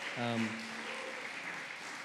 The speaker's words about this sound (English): So do you want to give her a round of applause?